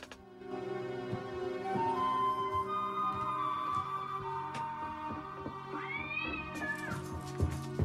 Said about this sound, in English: Upon hearing the screeching cat, Jake darts out of the room to investigate.